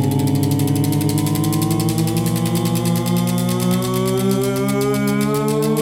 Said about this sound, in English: Shall we spin the wheel? Shall we spin it? Yeah, spin it. Here we go.